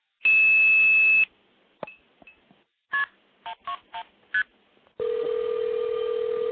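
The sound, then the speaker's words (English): A steady dial tone gives way to a short series of quick keypad beeps, then a continuous ringback tone sounds through the line, clear, as a call dialed through a telephone switch rings a phone. No one talks. “And you can hear it ringing”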